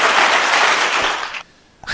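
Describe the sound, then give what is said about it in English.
An applause sound effect: a dense burst of many hands clapping in a loud, continuous crackle for well over a second before it abruptly cuts out, followed by a brief faint noise. “Look, you got clappy hand thingy noises.”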